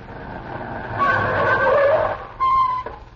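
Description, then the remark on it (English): A car's tires squeal as it skids, a long screech followed by a second shorter squeal as it brakes to a halt over a rumbling engine, loud. “Kurt, stop the car.”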